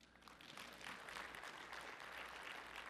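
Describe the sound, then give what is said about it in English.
An audience claps steadily for a few seconds, a dense, crackling wash of many hands at an even, fairly loud level with no voices on top. “Yeah, go ahead and applaud.”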